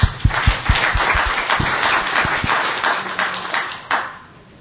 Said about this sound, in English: So please give a big round of applause to our two presenters.